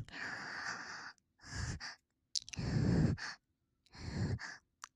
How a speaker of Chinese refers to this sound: 喘息着。